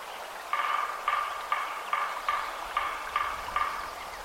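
A woodpecker's harsh, repeated calls ring out in a steady series of about eight raspy bursts, evenly spaced, over a quiet outdoor background with no one talking.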